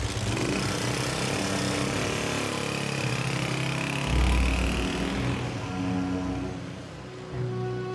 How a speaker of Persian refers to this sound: امیر سوار موتورش میشه و میره.